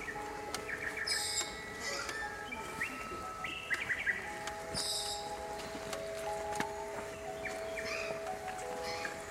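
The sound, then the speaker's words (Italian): A dense chorus of birdsong from battery-powered devices playing two pieces at once, with many overlapping chirps, trills and whistles from several birds, some bright, over a steady ambient woodland hum with faint rustling. “Funziona tutto con le batterie e abbiamo deciso di mettere sempre 2 proposte in contemporanea perché il bosco è un posto corale, la natura è corale, è un insieme e siamo riusciti così a creare un mondo degli uccelli.”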